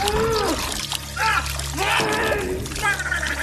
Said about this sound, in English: Please clip the gargling noise.